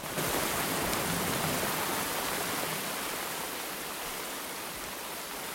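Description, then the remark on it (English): Heavy, driving rain pours down in a dense, unbroken hiss, steady and loud throughout with no voices or other sounds breaking through. “Morgan carries Johnny over his shoulder through the driving rain, with Blood following behind.”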